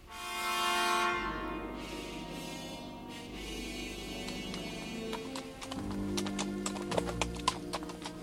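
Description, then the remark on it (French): Horse hooves clip-clop in a steady rhythm, sharp clicking strikes ringing out over a low rumbling drone, with a brief loud swell near the start and no voices; Angelo's horse on a path among rocks, heading toward a village. “Le chemin que suivait le cheval d'Angelo frappa de la tête contre un de ces rochers en forme de voile latine et il se mit à l'enlacer en direction d'un village dissimulé dans les pierres comme un nid de guêpes.”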